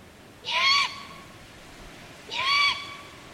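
A young bird gives two loud, harsh begging calls, each a raspy, hissing screech lasting about half a second, spaced nearly two seconds apart against quiet background.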